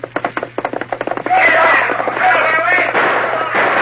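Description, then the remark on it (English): A rapid volley of about a dozen sharp gunshots cracks out in quick succession, then gives way to a loud, sustained rushing roar laced with whining, wavering tones; bullets fly at the Lone Ranger as he rides his horse Silver along a railway right-of-way. “Bending low over the pommel of the saddle to avoid the flying bullets, the Lone Ranger urged his gallant horse to greater efforts.”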